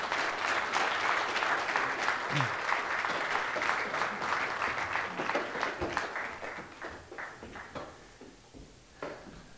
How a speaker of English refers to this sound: Hey, thank you for coming up and sharing. Let's give them an applause for...